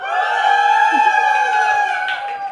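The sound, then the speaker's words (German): A live audience in Munich cheers and whoops in one loud, sustained burst of high, held voices that carries steadily for a couple of seconds before tapering slightly at the end. “Und jetzt sind wir einfach hier und hosten unseren Podcast vor einem Publikum. Leute, kann man euch hören?”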